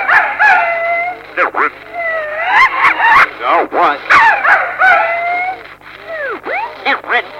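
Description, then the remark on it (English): A voice imitates a dog with a fairly loud run of yips, whines and short howls, the pitch sliding up and down in quick repeated arcs. “First it was the chicken. Then the dog, wasn't it?”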